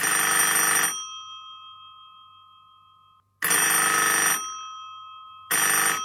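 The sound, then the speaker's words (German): An old-style telephone bell rings for an incoming call in three loud, clangy bursts, each about a second long, with a bright metallic tone that hangs and fades in the pauses between rings. No one speaks. “Es müsste gleich klingeln.”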